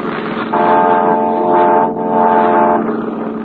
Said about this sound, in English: They're close enough to hear you blow the fog horn.